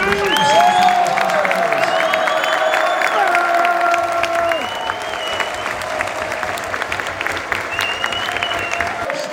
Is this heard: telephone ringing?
no